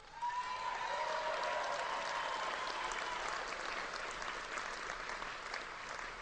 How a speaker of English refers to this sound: you can hear the cheering there of disabled American veterans listening to the president saying we're on schedule.